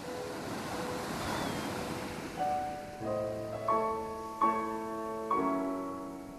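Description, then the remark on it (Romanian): Soft, steady sea surf breaks on the shore as a broad hiss for a few seconds, then gentle sustained musical notes enter over the continuing wave noise. “uite marea.”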